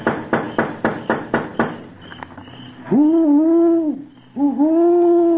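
A string of slow, steady taps on a house is followed by two long, drawn-out owl-like hoots, loud, with a brief pause between them and no talking.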